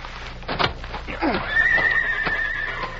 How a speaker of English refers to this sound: Those are the Clayton horses, all right.